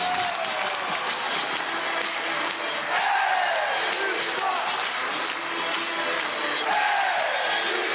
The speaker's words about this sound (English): Everybody is just on their feet screaming, kill, kill, kill. This is hockey.